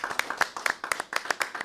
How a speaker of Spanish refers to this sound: Somos tres gatos locos acá, hemos estado hablando de perros. Así que se deben notar los aplausos un poco pobres, pero es lo que hay en el estudio.